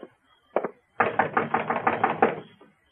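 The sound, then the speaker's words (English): Knocking on the wooden door of Mr. Silsby's shack on Cox's Lane: a couple of separate raps, then a rapid, steady burst of about eight or nine loud, hollow knocks that trails off. No one speaks. “Knock on the door.”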